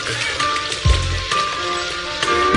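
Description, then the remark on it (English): Heavy rain pours down in a dense, steady hiss, drops drumming on a surface, with a brief low thud early on and no voices. “This rain is so fucked up right now.”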